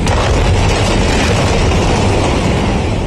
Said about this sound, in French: Une explosion cataclysmique. Un champignon de fumée se crée dans le ciel. La force du choc souffle les bâtiments sur plusieurs dizaines de mètres. Les vitres volent en éclats dans presque toute la ville.